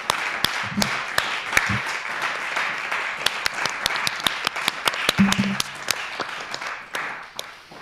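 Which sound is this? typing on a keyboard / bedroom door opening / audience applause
audience applause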